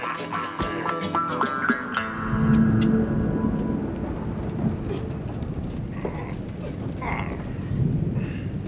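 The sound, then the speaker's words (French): A thunderstorm: a steady wash of rain with scattered crackles and drips, while deep rolling thunder rumbles continuously underneath, growing heavier after the first couple of seconds. No voices. “La tempête s'élève. Le ciel est comme la gitana ce soir. Il gronde, il est en colère.”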